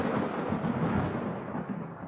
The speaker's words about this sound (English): That thunder that I'm hearing, that lightning